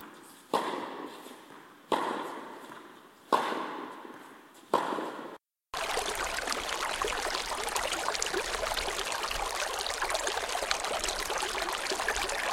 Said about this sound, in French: C'est le ruisseau de Trois. Il est dans ma arrière pelouse.